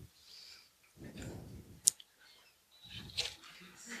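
A sharp mouse click on a print button in a cash register system, then short bursts of mechanical whirring as a small receipt printer feeds and prints a receipt, moderately quiet, with no one talking.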